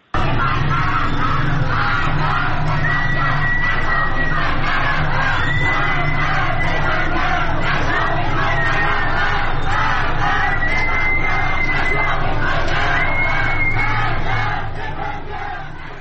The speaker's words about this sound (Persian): در خیابان جمال‌زاده تهران معترضان زیادی امروز شعارهایی می‌دادند. اگر ویدیوش آماده هست می‌تونیم صدای اون رو بشنویم.